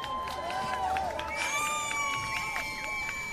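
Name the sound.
crowd applause and cheering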